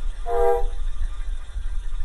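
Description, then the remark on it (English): A night train heading south rumbles low and steady, with a short blast of its horn near the start that fades within half a second. The rolling noise continues underneath. No voices. “I am taking the night train south, and I am bringing the memory of this limestone town with me.”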